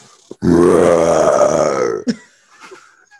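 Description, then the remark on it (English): A person imitates the cry of a shark being zapped and jumping out of the water with one long, loud, croaking burp-like sound lasting about a second and a half, made from the diaphragm, followed by a brief click and faint breathy noises. “That sounds like a burp.”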